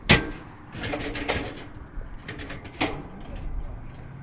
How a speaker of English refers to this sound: Once it's open, he pulls down a sectional ladder.